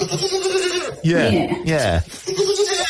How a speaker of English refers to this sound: the goat is in the kitchen. She's offering the goat breakfast this morning. Do you want to have a listen? Yes. Here it is. What's wrong? Want your breakfast? And the goat is saying yeah, because he wants his Frosties.